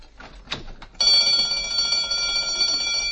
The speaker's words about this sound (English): Don't get nervous, folks. It's just the burglar alarm. It's a nice burglar alarm, too. It attracts a lot of burglars.